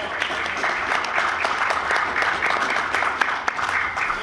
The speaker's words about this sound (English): And let's have a big round of applause for these four.